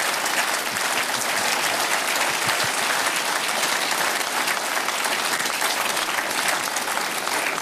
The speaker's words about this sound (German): Also nochmal ganz herzlichen Dank für Ihren Besuch und bitte noch einmal einen großen, tosenden Applaus für unseren Gast.